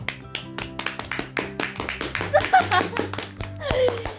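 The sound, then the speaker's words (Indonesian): Steady hand clapping, a quick run of sharp claps lasting several seconds, with a sustained tonal backdrop and a voice briefly chiming in near the end. “Tepuk tangan dong.”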